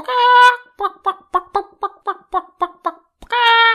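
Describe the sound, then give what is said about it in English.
Chickens cluck: a drawn-out squawk, then about nine short, evenly spaced clucks in a quick rhythm, and another long call to finish. “So today, let's talk about chickens.”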